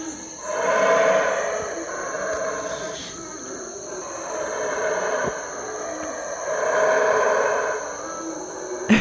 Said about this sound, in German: Es ist 6.55 Uhr. Und die Brüllaffen sind auch schon wach.